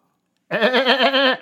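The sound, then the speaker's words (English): A person imitates a goat with a loud, wavering bleat lasting about a second, the voice quivering in a rapid, goat-like vibrato after a brief silence. “That's the best goat impression I've ever heard.”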